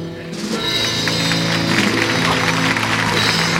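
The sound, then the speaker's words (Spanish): A large crowd claps steadily and continuously, a dense wash of applause that stays loud throughout, with sustained musical tones running underneath. “El aplauso, mientras que hemos contenido casi la respiración, porque ha sido una imagen perfecta, es como todo dibujado,”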